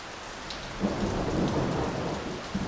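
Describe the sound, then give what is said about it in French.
A thunderstorm in Greece: steady rain hisses throughout while a low rumble of thunder swells in about a second in and rolls on. No voices. “Ah oui, d'accord, en fait c'est un orage.”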